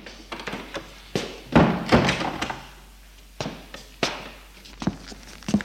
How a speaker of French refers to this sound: Il ouvre la porte. Et la fait entrer. Pose les valises dans l'entrée. Et ferme la porte.